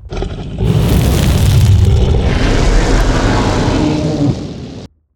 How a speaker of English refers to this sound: Watch out! She's breathing fire everywhere.